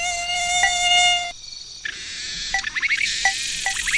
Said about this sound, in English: We need the cicada and the other thing that buzzes. Remember, I need one of this kind. I don't... And one of this kind. Actually, it sounds like two cicadas. Not sure.